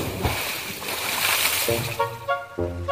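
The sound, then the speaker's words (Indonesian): A loud splash and rushing churn of water as someone jumps into the sea while bathing at a beach, fading after a second or so as a voice begins speaking. “Ih, enaknya mandi di pantai. Ah, lompat dulu.”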